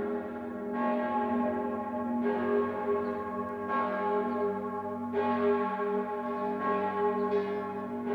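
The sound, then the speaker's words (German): Church bells of St. Peter in Zürich ring in a steady, unhurried peal, each new strike landing every second and a half or so over a rich, humming resonance that never fades out. No voices are heard. “Zürich, der St. Peter.”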